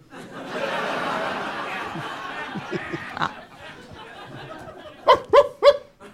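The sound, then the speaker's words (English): Crowd laughter and chatter swell, then fade; after a quieter pause a comedian doing a dog impression imitates a dog with three quick, loud, sharp barks in a row. “I'm a comedian. I do dog impressions.”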